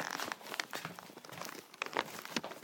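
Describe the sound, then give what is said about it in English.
A plastic bag crinkles and rustles as someone picks it up to take it out, with dense, irregular crackling bursts running continuously for a few seconds, rising in sharper crunches now and then. “Hold on, let me just take the bag and that can go out as well.”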